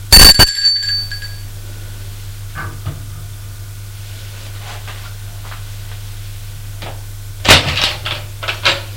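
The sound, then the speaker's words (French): A doorbell at the right-hand apartment door on a second-floor landing rings once at the start, a bright metallic ding with a ringing tone that fades within about a second, followed by a steady low hum and a few scattered knocks and rustles. “Arrivé au deuxième étage, il sonne à la porte de droite.”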